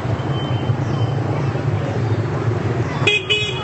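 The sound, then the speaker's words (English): Steady street traffic in the compact old quarter of a city, with narrow streets close together, heard while walking through the traffic outside the big market: a low engine rumble throughout, voices murmuring in the background, and a couple of short, bright car horn toots near the end. “So you see, I'm walking right through the traffic here right now.”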